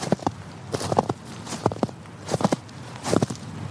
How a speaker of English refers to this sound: I'm still crunching through snow, and it is really bitter out here tonight.